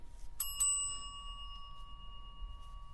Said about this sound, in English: And every time there's a point in the subject that we want you to remember, you're going to hear this bell.